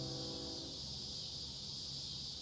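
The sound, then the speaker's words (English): Cicadas chirp outdoors at night in a steady, unbroken high-pitched drone, with the low rumble and humming tone of a train in the distance underneath that fade within the first second. “Got the cicadas and we've got the train in the distance, but we're going to play it anyway.”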